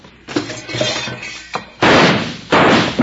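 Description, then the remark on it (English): Two loud gunshots boom about a second apart, each with a harsh ringing tail, following a stretch of clattering, thumping commotion; someone is shooting at two men. “now who in the heck is shooting at us and why?”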